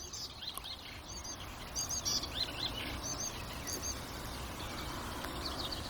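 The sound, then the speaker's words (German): A mimicking songbird sings outdoors. Its song shifts through imitations of black woodpecker, blackbird and warbler to short, bright tit-like phrases at a fairly steady pace, over a constant rushing background of ambient noise. “Also ist es gerade von Schwarzspecht auf Amsel, auf Grasmücke zur Meise gekommen.”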